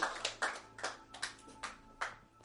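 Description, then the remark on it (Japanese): A group at a Christian service claps its hands in applause for God after a prayer, a run of sharp, fairly evenly spaced claps at moderate loudness, with no voices over it. “Let's give God a hand.”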